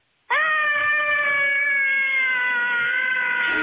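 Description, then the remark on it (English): A mother and her son from Eau Claire scream together over cabin fever in one long, loud, high-pitched wail that holds steady for over three seconds, its pitch sagging slightly before it cuts off. “And yeah, the mother and son scream in tandem.”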